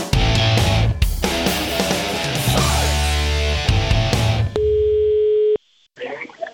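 Busy music gives way to a single steady telephone ringing tone as a phone call is placed, held for about a second before it cuts off abruptly, leaving a short silence and faint rustling.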